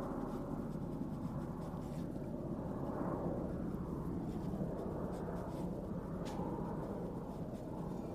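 A steady, low roar of airplanes passing overhead fills the whole stretch, a constant rumbling drone with no talking and only slight swells in loudness.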